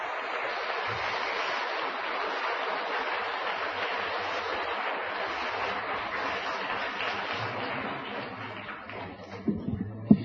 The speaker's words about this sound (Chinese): 所以今晚咧我哋首都佛教大厦每一个月的一次的宏法会呢，有这样的福报能够邀请到法师来为我们开示，是我们无上的光荣，请大家以热烈的鼓掌。